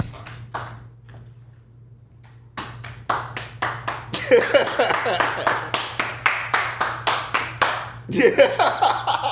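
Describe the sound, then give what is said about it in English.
A person stands up and claps their hands in a steady, brisk rhythm of sharp, crisp claps after a short pause, in reaction to a tweet, with some voices and laughter faintly mixed underneath. “Nigga stood up and clapped.”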